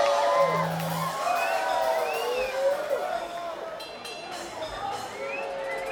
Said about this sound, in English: All right, the crew wants another round of applause, obviously. You know the crew!